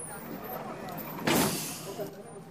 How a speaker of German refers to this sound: Noch fassungslos über die Auskunft im Krankenhaus nehme ich den Bus zum Pantheon zurück.